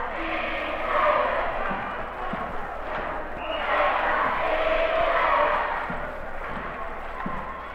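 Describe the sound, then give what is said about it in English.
A school gym crowd doing the Lincoln cheer during a timeout in the first quarter of a Lincoln Lions basketball game against Lehman, chanting and cheering in loud, swelling waves, with sharp thumps of a bouncing basketball and footfalls punctuating the roar. “And here is the Lincoln cheer.”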